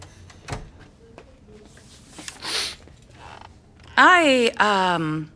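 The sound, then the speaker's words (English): A door swings shut with two loud, drawn-out squeaky hinge creaks near the end, preceded by a few soft bumps and rustles against a quiet background. “Shut the door, please.”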